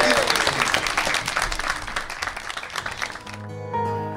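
A room full of people claps loudly and steadily for a few seconds, the dense applause filling the space before giving way to a swelling musical tone at the end.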